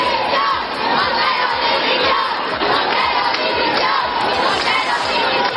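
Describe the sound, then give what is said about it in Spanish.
A large protest crowd at a march in central Madrid chants and shouts in unison, a loud, dense roar of many voices with the rhythmic, repeated chant "Montero dimisión" calling for the resignation of the Minister of Equality. “Se escucharon gritos de Montero dimisión que evitó escuchar la ministra de Igualdad, que eludió la ministra de Igualdad y por tanto se ausentó de esa marcha principal en el centro de Madrid.”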